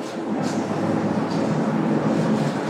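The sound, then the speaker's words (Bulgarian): A refrigerator's steady, droning hum in a Metro wholesale store, continuous and fairly loud with a broad rumbling texture and no pauses or voices. “Звук на хладилник в Метро.”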